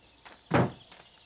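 A door opens with a solid thunk, framed by a couple of soft, quick footsteps before and after as someone heads out the door and another follows slowly, all in a brief quiet moment with no one talking.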